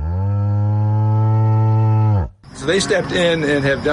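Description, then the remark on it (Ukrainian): A loud cow moo holds steady for about two seconds on a dairy farm in Vermont, United States, where student volunteers milk and feed the cows, then a brief pause gives way to a busier stretch of barn noise with overlapping animal calls. “Студенти-волонтери вже кілька місяців щоденно і цілодобово доять корів, годують їх, виносять гній і допомагають при народженні телят.”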